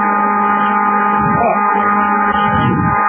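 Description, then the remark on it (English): A vacuum cleaner runs continuously, its loud, steady motor whine droning for the whole stretch, with muffled voices faintly underneath. “Who had the vacuum cleaner?”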